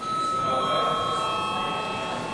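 A steady electric bell rings loudly and continuously in a parliament chamber, one sustained shrill tone with no breaks, over faint background murmur. It is rung because there is no quorum in the hall before a vote.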